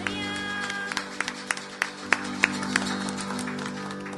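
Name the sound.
audience applause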